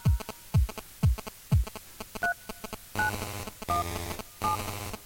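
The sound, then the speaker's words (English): Short captured telephone DTMF keypad dialing tones ring out in a rhythmic sequence, matched to a tune over an electronic beat with thumping kick drums and ticking hi-hats, forming a quirky musical pattern with no talking. “And then it becomes a duet with the actual DTMF tones that I've captured.”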